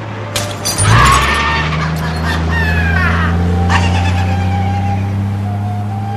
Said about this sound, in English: At dawn, Angel throws a bottle from Chuco's car.